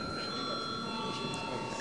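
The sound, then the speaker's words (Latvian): A parliament voting bell, rung before a vote on amendments to the law on taxes and fees, sounds in one steady, unbroken electric tone with a high, buzzing pitch for the whole moment, over a low murmur of background chatter. “Lūdzu zvanu.”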